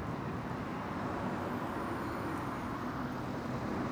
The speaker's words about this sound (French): Me demande aussi pourquoi il y a tant de voitures et de camions qui passent en plein milieu de ce magnifique bourg Becherel. Ça n'arrête pas.